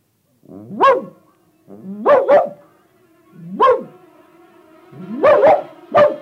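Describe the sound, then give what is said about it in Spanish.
A large dog barks loudly, about seven sharp barks in an uneven pattern of singles and quick doubles, with brief pauses between them and no voices. “Era un perro.”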